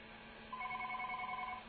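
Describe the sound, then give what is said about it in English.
A single ringback tone on a dialed telephone call, one steady electronic burst lasting about a second, heard through a thin, band-limited phone line with a low hum underneath and no talking. “Do you hear that? It's ringing.”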